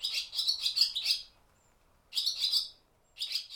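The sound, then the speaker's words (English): Barn swallows twitter in three bursts of rapid, high-pitched chirps, each about a second long with short quiet gaps between them, and no voices. “As I dug through my sound library, I stumbled upon these barn swallows.”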